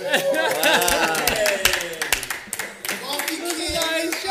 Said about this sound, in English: Let's get a clap.